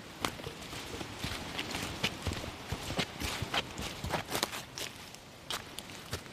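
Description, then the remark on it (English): Irregular footsteps tread and climb through wet bush undergrowth, each step a soft squelch mixed with brushing and snapping of leaves and twigs, moderately loud over a steady background hiss, with no talking. “So we've walked in for a little while now into the bush, climbing a lot, I have to say, but the rain's holding off.”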